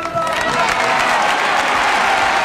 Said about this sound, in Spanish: Aplausos para Rafa.